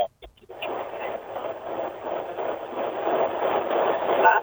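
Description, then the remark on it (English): A passing train in South Dakota rumbles steadily in the background of a phone call, heard through a muffled, narrow-band phone line, a continuous roar that swells gradually louder over a few seconds, with no talking. “There is literally a train going by in the background of your phone.”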